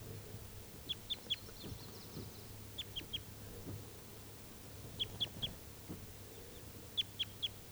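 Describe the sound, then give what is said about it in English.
A male bird, number 391, calls from nearby trees in short bursts of three sharp, high-pitched chirps, repeated four times about two seconds apart, over a low, steady background hum. “391 is still free, and he's calling in the trees nearby.”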